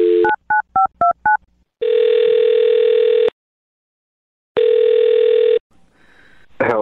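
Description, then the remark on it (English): A brief telephone dial tone gives way to five quick, evenly spaced two-tone dialing beeps, followed by two long, steady ringing tones separated by a pause of silence, as a man's phone number is dialed for a call on the radio show Brooke and Jubal in the Morning. “Well, I'll dial his phone number, get him on the phone, and see if we can figure out what happened, right?”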